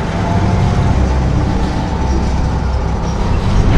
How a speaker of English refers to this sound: looks out the grated windows of a bus as it arrives at a prison.